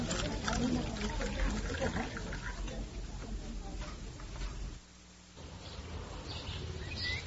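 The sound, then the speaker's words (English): Tea is poured into a cup, a steady splashing trickle that stops briefly near the end and then resumes, with faint murmuring in the background. “Now then, this will make you feel better. Shall I pour?”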